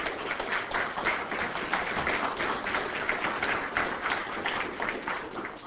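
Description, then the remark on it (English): An audience applauds steadily for several seconds, a dense, even wash of many hands clapping at moderate volume with no voices over it. “So let's give them a round of applause now.”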